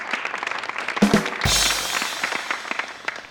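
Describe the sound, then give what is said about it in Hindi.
A crowd of students bursts into applause at the announcement that schools would stay closed until 25 January, a dense crackle of many hands clapping that swells suddenly to a loud roar and keeps going steadily. No one speaks over it. “फिर जनवरी की 2 तारीख पर कहा गया कि जनवरी की 25 तारीख तक स्कूल बंद रहेंगे, फिर तालियां।”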